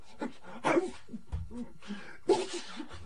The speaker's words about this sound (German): Der Messias war entweder erkältet oder dann hatten ihn die Dämonen in Form einer Allergie befallen. Er nieste fröhlich weiter